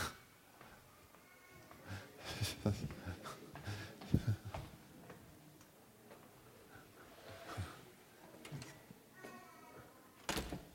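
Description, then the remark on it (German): A lecture hall door is pushed shut with a few scattered clunks and thuds, fairly quiet in a reverberant room, with faint voices murmuring in the background. “Ich glaube, ich mache mal die Tür zu irgendwo.”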